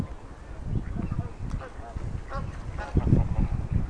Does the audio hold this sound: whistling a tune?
no